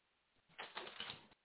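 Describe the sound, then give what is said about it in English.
Paper rustles and crinkles for about a second as a sheet is pulled out and handled, with a few crisp scraping bursts, then stops abruptly. No one speaks. “This is where, let me show you. Let me get my paper out.”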